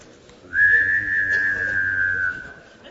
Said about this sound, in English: It's a special little noise I learned how to make in Chickasha, Oklahoma, where I grew up. It's singing and whistling at the same time.